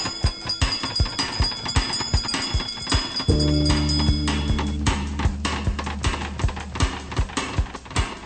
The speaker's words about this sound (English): Wizards and witches, wherever you dwell, give us a hint by ringing a bell.